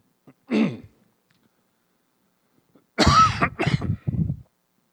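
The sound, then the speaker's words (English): A short throat clear comes first, then after a quiet gap a burst of harsh, loud coughing and throat clearing from one person, three rough pulses in quick succession. “I gotta take a break here. I got trouble. You know, the cough drop might not help.”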